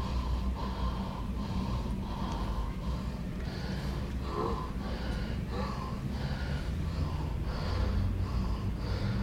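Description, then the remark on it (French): A woman in labor, giving birth, blows out a series of short, forceful breaths in a steady rhythm, fairly loud against a constant noisy background, with no one speaking. “Encore. Encore. Soufflez.”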